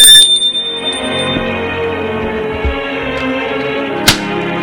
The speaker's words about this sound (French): Sonne à la porte.